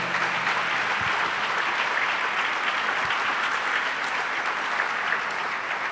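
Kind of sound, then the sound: crowd, audience applause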